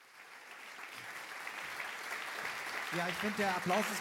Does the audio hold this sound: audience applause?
yes